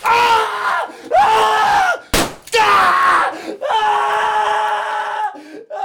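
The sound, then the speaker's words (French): A young man screams in agony in several long, loud, strained bursts, separated by brief gasps and a sharp impact-like crack, without any words, after being shot in each knee with a revolver. “Le jeune homme crie, il hurle, il appelle.”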